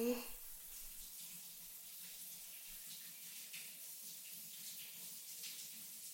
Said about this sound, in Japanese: 一回シャワーで流そうね。